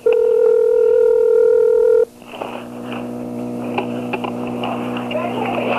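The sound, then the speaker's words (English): A loud, steady telephone dial tone hums for about two seconds, then abruptly cuts to a quieter, hissy line with scattered faint clicks and beeps, like a call being dialed. “Okay, I'm on the phone.”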